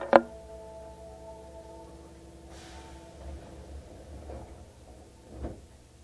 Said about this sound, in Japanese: 扉が閉まります。ご注意ください。